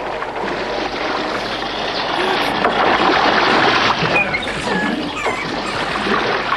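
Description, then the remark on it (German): A small rowboat is rowed through choppy water toward stone landing steps in wind and sea spray, with a steady, dense wash of waves and splashing and gusts of wind swelling midway, continuing without pause. “Ihr könnt ohne Schwierigkeiten an die Steinstufen ranrudern und an einem Steinpfosten festmachen.”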